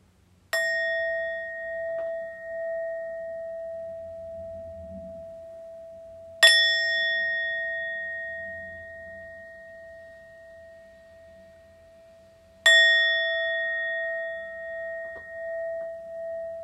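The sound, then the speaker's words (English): Three struck mindfulness bell tones at about six-second intervals during a standing and walking meditation, each a sharp clang followed by a long, sustained ringing decay that overlaps the next strike. Clear, with no talking. “And listening to the bells.”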